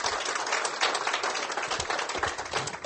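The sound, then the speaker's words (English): A crowd claps steadily to welcome a guest onto a show, a dense, crackling wash of many hands that holds at a fairly even loudness throughout with small swells, and no voices over it. “Let's give Jeff a nice round of applause.”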